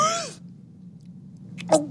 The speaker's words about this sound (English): But if you find that you're hungry, it's bound to happen, I bet. Try swallowing air like this.